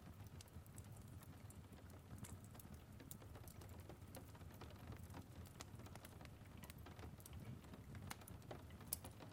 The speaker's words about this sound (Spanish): Y después te acercas a observar la lluvia a través del frío cristal, mientras observas cómo las pequeñas gotas golpean la ventana.